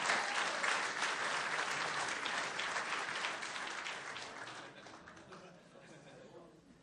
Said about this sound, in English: Why don't we give her a round of applause as she enters the water?